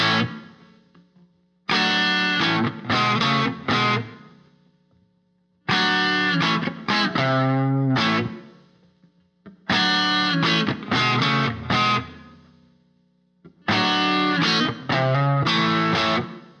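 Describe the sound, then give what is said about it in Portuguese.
An electric guitar, distorted by a tube amplifier turned up to maximum, plays a crunchy overdriven blues riff of full triad chords on the first, fourth and fifth degrees in four repeated phrases, each a burst of strummed chords followed by a short ringing pause. Loud and alone, with no voices. “A distorção normalmente era feita pelo valvulado no máximo, gerando um overdrive que possibilita o trabalho com as tríades completas.”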